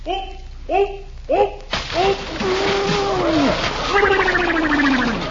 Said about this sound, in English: Holy cow, he knocked half the water out of the pool.